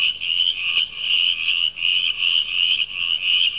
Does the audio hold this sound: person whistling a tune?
no